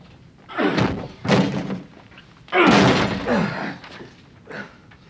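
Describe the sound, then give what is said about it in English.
A locked door above a shop, with blood on its doorknob, is forced open with a series of heavy, loud thuds and crunching blows, about five impacts in an uneven rhythm, the longest one splintering. No voices are heard. “Get the door open. Get it open, quickly.”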